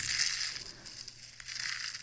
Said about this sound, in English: That she's crunching with her hands? They're soap curls.